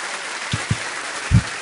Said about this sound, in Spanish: Este fuerte aplauso es para ti.